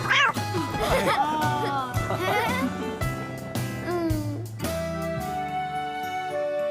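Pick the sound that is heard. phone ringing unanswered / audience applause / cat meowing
cat meowing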